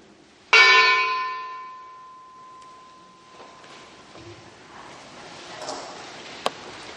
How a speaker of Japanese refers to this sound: 私たちが二度と核兵器の使用を許さず、主が平和な未来を子どもたちに備えてくださっていることを信じて、この鐘をつきます。